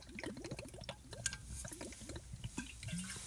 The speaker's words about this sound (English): Give them a minute. They're drinking water.